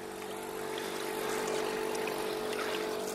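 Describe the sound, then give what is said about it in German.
Steady motorboat engines drone across the Dämmeritzsee, a lake on the border of Berlin and Brandenburg; the constant hum is layered with splashing and rushing water, moderately loud and continuous with no talking. “War schon eine Umstellung da auf den Lämmeritzsee, das war schon ein bisschen krass. Die ganzen Motorboote.”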